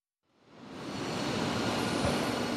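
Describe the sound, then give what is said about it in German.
Broad, steady industrial roar fades in after a brief silence and holds at a constant level, a dense wash of noise in an assembly hall of the Airbus plant in Hamburg-Finkenwerder, where workers assemble three aircraft; machinery hums throughout; no one speaks. “Das Airbus-Werk in Hamburg-Finkenwerder. In einer Halle montieren Arbeiter drei Flugzeuge.”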